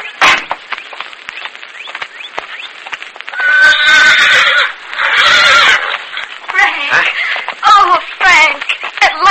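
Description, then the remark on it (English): A horse waiting outside a prison gate whinnies loudly, letting out several drawn-out, quavering neighs between shorter snorts and rustling noises. “There's someone waiting over there with a horse for you.”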